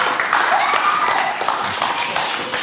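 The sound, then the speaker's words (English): A crowd claps steadily, a dense patter of many hands, with a faint voice or two mixed faintly under the applause throughout. “Round of applause”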